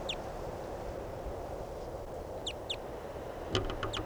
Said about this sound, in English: Recording a crossbill that sounded different, just flew over. No sign of it. There's a crossbow here that sounds different.